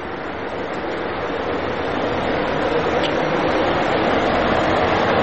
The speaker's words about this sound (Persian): اه ماشین پلیس داره اینجا رد میشه، ببینیم که بهمون گیر میده یا نه.